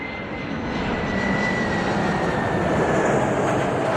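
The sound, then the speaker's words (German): A jet airplane's engines roar steadily and loudly, a broad whooshing rumble with a thin high whine running through it, as the aircraft lands in Moscow late in the evening of 1 August 2024, carrying former prisoners from Europe and the USA. No voices are heard. “Ein Flugzeug landet in Moskau.”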